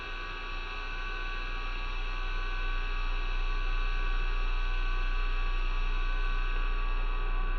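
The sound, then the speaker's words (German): A steady electrical hum and drone with faint static hiss from an old radio being tuned across stations, holding constant and fairly loud for the whole stretch with no voices. “Ein Brummen, ein Dröhnen.”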